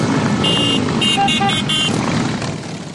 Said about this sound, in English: Thousands of members from all over the country ride their motorcycles to Washington, D.C. Then they ride in a motorcycle parade through the city to honor veterans.